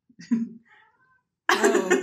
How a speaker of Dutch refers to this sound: Als jullie ze op de achtergrond horen, dan is het mijn kat die een vlieg aan het aanvallen is.